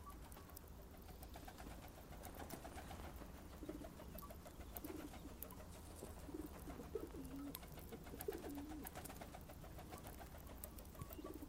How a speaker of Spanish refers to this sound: Al llegar lo suficientemente abajo, además de escuchar el zumbido que hacían las palomas y la misma Clarita, al atravesar los aires, pude de nuevo distinguir sus rasgos.